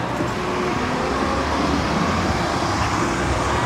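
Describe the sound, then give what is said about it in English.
Steady roar of street traffic at a corner, heard from behind a bus stop, with engine rumble from passing vehicles and a bus, continuous and fairly loud throughout with no talking. “Okay, so we're behind this bus stop here.”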